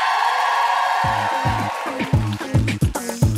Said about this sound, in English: And now, if you think former superstar producer Matt Collette did better, please applaud now.